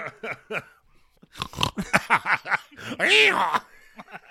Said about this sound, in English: Did you just fucking snort? Yes, that caught me off guard. I don't know why it caught me off guard. I should have fucking expected it.